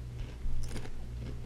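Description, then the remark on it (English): A crisp, heavy crunch as someone bites into a spicy, lime-flavored rolled tortilla chip similar to Takis, a short burst of crackling followed by quieter chewing, with no talking. “Same crunch as a Taki, not quite the same heat as Taki.”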